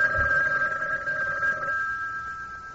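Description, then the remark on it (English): A telephone rings with a steady, sustained electronic tone, clear, holding for a couple of seconds before fading slightly. No one speaks. “He started for the door, but stopped short as the phone rang.”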